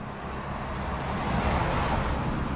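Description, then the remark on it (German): Steady, dense road traffic on the Neckar bridge between the Heidelberg districts of Schlierbach and Ziegelhausen, Germany, rumbles in a continuous wash of car and engine noise that swells slightly as vehicles pass, with no voices. “Viel Verkehr hier auf der Neckarbrücke zwischen den Heidelberger Stadtteilen Schlierbach und Ziegelhausen.”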